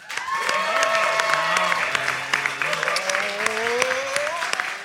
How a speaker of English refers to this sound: I would like you to applaud now. Let's hear that.